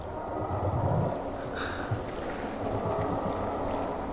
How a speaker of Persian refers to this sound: شنیدی؟ صدای ماشین آلاته.